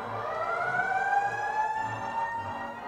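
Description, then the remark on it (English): A police siren effect from a sound effects machine wails steadily, its high tone gliding slowly up and down without a break, over a faint low rumbling beneath it. No one speaks. “Birds, and a doorbell, along with the police.”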